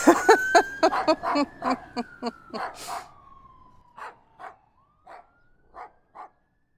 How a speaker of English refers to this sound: Oh, it's a fire truck! I better... Oh, I'm gonna go chase it!